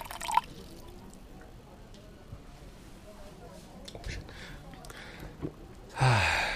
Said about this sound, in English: Here, let me pour you some cold water, auntie.